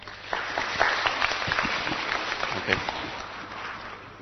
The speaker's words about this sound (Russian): Пожалуйста, аплодируйте.